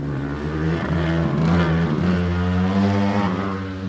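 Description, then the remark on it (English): Loud engine noise from race cars weaving between cones on an autocross course on a banked portion of a track, a steady buzzing drone whose pitch shifts slightly as the engines rev through the run, with no voices. “This afternoon, the cars are weaving between cones on a banked portion of the track.”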